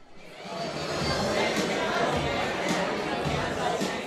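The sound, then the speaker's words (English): A dense murmur of many overlapping voices from a crowd at an event at the MIT Museum, a steady bustling chatter with no single speaker standing out, fairly loud and continuous throughout. “The music is thumping, and the crowd is bustling at the MIT Museum.”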